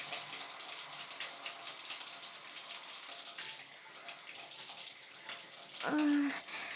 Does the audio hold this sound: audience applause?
no